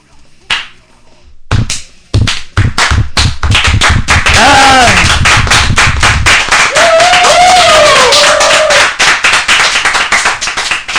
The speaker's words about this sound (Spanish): Ese aplauso americano para los ….